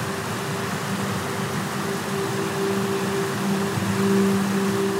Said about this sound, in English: And personally, if you can hear the sound of running water, it's very comforting.